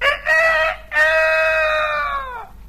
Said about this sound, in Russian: Закричала ослиная голова. Вы, конечно, понимаете, что осел только открывал рот, а кричал спрятавшийся под окном петух.